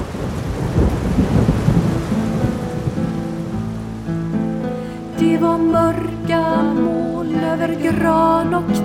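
A deep rumble of thunder rolls over a steady, heavy downpour that pours harder and harder, loud; about halfway through, bright melodic tones come in over the continuing rain.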